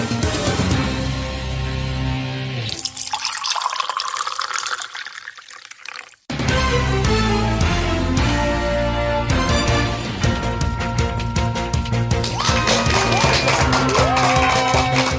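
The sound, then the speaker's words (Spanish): Applause and cheering blend with loud, upbeat intro music, with a rising whoosh and a brief dip to near silence before the music and clapping surge back in. “Y con esa energía positiva y esos aplausos damos inicio a este episodio número 259 del programa del podcast Te Invito a un Café.”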